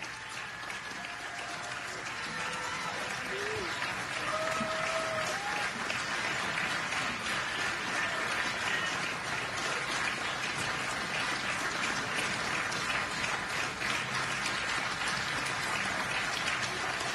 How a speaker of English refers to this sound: The applause continues as the president looks to his left. Judge Barrett smiles. The president smiles back. The president seems eager to allow the applause to go on as long as possible.